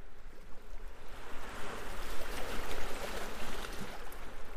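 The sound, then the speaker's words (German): Steady rushing ocean waves on a beach with a turquoise sea fill the scene, a broad wash of surf-like noise that swells and settles in gentle surges, with no voices present. “Man hört vielleicht ein bisschen die Wellen schon rauschen.”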